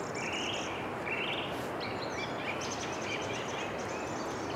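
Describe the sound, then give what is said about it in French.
A song thrush sings a series of short, repeated whistled phrases over a steady wash of outdoor background noise with no voices. “si vous ne savez pas quel oiseau chante en ce moment, dans le doute, c'est une grille musicienne.”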